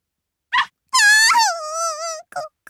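A puppy whimpers as someone slowly reaches out to touch its head: a short yelp, then a long, high, wavering whine that slowly falls in pitch, followed by a couple of brief squeaks.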